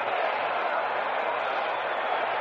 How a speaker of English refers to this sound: For the first out of the Pirate half of the seventh inning, and this partisan crowd here at Yankee Stadium gives Yogi quite an ovation.